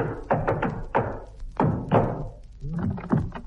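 impact, knock on a door

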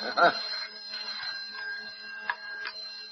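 household object, telephone ringing

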